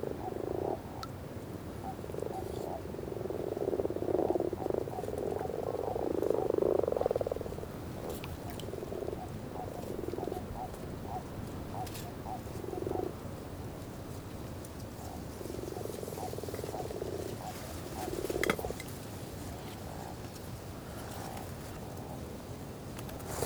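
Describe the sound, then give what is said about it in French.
A small toad croaks at night in short, throaty bursts, some drawn out and others clipped, repeating irregularly at moderate loudness against a steady low background hum, with no one talking; the evening is nearly 14 degrees after a windy day. “Il y a même un petit crapaud à lit aussi.”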